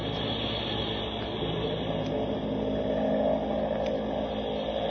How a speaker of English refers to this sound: We'd better get in there quick with this plane diving like crazy.